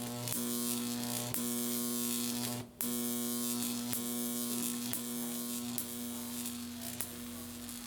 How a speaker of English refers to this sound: It didn't work out, but here's a cool sound she recorded of a Jacob's ladder.